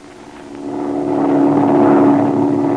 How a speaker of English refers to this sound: Hey, listen. There's another plane. That isn't the same one. You can tell by the engine. Listen.